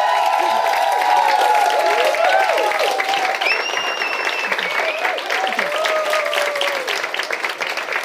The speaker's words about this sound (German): Okay, ich bin aufgeregt, Leute. Gib mir mal einen kurzen Applaus. Ich brauche mal ganz kurz einen Applaus.